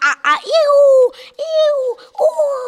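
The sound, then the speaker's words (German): Voices mimic excitedly shrieking monkeys with a run of loud, high-pitched shrieks and hoots: quick short yelps first, then three long sustained screeches in a row, energetic. “Gleich daneben hörten wir die Affen aufgeregt kreischen.”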